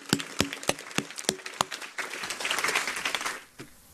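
A few sharp, evenly spaced hand claps open, then swell into a dense burst of applause from a small group that fades out toward the end.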